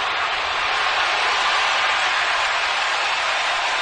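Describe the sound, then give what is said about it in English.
A large baseball stadium crowd roars and cheers after a fan runs onto the field, in a steady, dense wash of noise that holds at a constant loudness throughout, with no single voice standing out. “By the way, I don't know if you can tell, but the crowd is loving it.”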